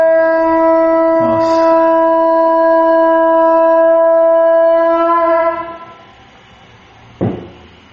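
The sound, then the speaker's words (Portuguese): A conch shell is blown to mark the end of a water break, sounding one long, steady, horn-like blast, loud and rich in overtones, holding a single pitch for about five seconds before fading, followed by a short knock. “Porque se tocou o búzio, acabou a hora de tomar água, tá?”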